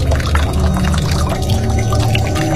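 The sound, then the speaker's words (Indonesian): Water runs steadily from a tap at the ablution area of a campus prayer room as someone washes their face, a continuous splashing rush that holds at an even level throughout, with no voices. “Aku matikan keran.”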